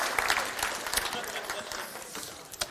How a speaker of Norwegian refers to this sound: Kanskje ikke du kan si det, men tusen takk til lovsangsteamet. Gi dem en klapp. Kjempebra.